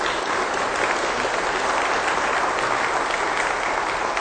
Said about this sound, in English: But we appreciate your service, and we will show that in the way we sometimes do with a polite round of applause.